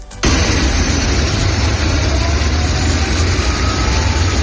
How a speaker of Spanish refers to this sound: Así llegaban a Mariupol decenas de autobuses a la espera para ser utilizados